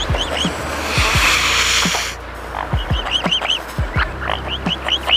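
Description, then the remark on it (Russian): A mute swan gives a series of short, throaty, nasal calls in an uneven rhythm, at first over a steady breathy rushing noise that cuts off partway through, then on their own. “Слушайте, лебедь-шипун.”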